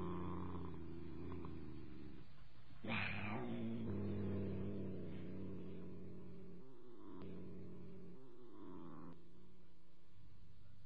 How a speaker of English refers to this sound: But even more particularly, she found comfort in her cat, in the gentle, oh-so-comforting purr of her sleek, fat cat, Saladin. Dear, dear Saladin.